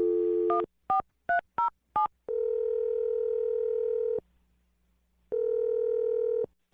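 telephone number being dialed

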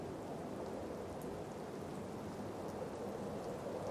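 gentle rain falling

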